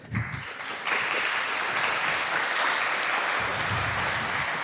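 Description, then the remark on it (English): An audience claps steadily to welcome a speaker before a talk, a dense wash of many hands that swells after a brief start and holds at an even, fairly loud level throughout, with no one speaking over it. “Wow, an applause even before it got started.”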